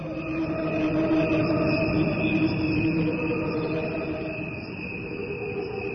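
A dense chorus of crickets chirps steadily throughout, a continuous shimmering trill with overlapping high tones, moderately loud, with no voices present.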